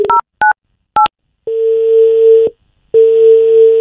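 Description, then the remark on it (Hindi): Three quick dual-tone keypad beeps from a phone being redialed after the call was hung up, then a steady dial tone that cuts out briefly and resumes, clear with no talking. “अरे गजब बेइज्जती, पटक दिया है मुंह पे फोन, फिर से लगाया जाए। आउटगोइंग फ्री है हमारा, लगाओ भाई।”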